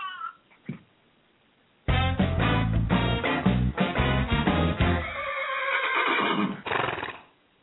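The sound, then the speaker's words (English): A horse neighs loudly, one long shrill whinny lasting several seconds with a quavering, falling pitch, followed by a short snorting burst. No talking. “Can you guys hear him? I hear that. I do hear that. He wants to go back to the casino.”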